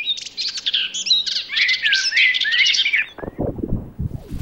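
Small birds chirp and twitter in a rapid, busy tangle of clear high notes for about three seconds before the song breaks off into a few lower, scratchy bursts.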